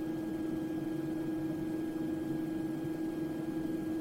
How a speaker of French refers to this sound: Donc dans leur chambre, ils ont un système qui permet de diminuer le volume du son ou en tout cas de faire un son qui est plus agréable pour dormir. On appelle ça un bruit blanc et on va te le faire entendre.